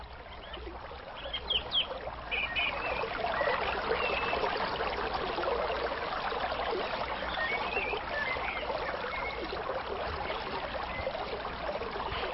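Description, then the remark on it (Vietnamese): Steady, dense rush of flowing river water with bright trickling and babbling, continuous throughout, with a few faint bird chirps high above the flow. “Chàng đi rẽ vào vườn, rồi chàng mới đi ra ở ngoài bờ sông.”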